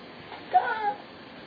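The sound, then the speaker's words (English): A single short cat meow, rising then falling in pitch, fairly quiet against a faint steady background hiss, with no talking. “Attack! The cat wants it.”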